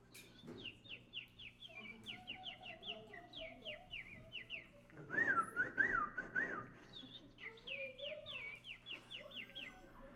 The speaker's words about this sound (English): Or maybe some smaller birds. Let's see if we can hear some different birds.